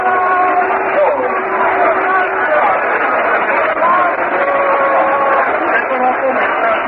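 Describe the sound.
A large ballpark crowd, especially the fans in the left field bleachers, applauds and cheers outfielder Mac Jones after his running catch in foul territory. The noise is a steady, dense wash that stays loud for the whole stretch, with scattered voices and shouts rising out of the din.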